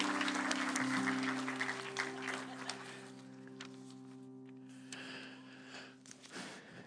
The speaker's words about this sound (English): Can you give him a hand clap? Thank you, guys.